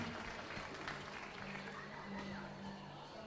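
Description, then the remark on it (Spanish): An audience claps steadily throughout for a singer after a sung performance, a dense, continuous patter of many hands that holds at an even level for the whole stretch, with a faint low hum beneath it. “El aplauso fuerte que se escuche”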